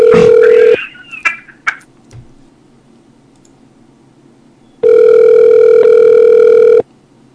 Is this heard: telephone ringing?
yes